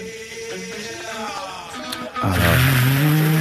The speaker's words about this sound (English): But if you want to do the car sounds, because the car is on, all right, and the radio is on as well.